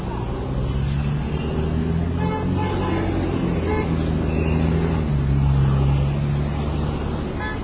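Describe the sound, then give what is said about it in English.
Dense, steady roadway traffic, with engines rumbling and car horns tooting repeatedly through the din of a busy intersection where traffic cops are present. “Okay, I'm pretty much at the intersection now, and I'm going to first attempt to cross the side street, which is...”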